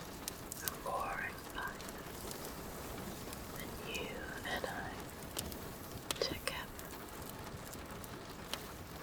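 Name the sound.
rain on a window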